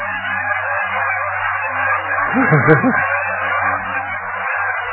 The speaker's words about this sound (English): Listen to all those geese. These things are geese. I don't know where they're headed north.